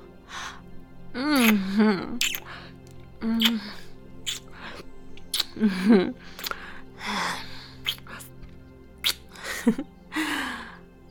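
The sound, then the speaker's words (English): Heavy panting: quick, loud breaths and sharp gasps repeat throughout, broken up by short voiced moans, with no ordinary speech. “You're panting so much.”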